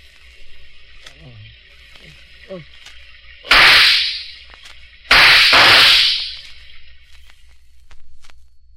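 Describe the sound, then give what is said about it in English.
Two loud gunshots, fired as a long-established signal between neighbors of a remote community and not at a departing car, ring out about a second and a half apart, each a sharp crack trailing off into a lingering echo, over a faint background hum. “Those shots were a long-established signal between the neighbors of that remote community.”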